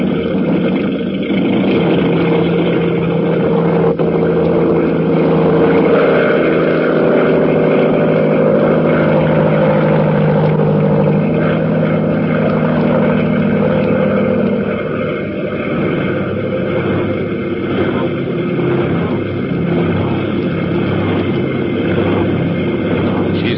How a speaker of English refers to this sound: Ah, there. There are the motors. All passengers will please fasten their safety belts. We're taking off.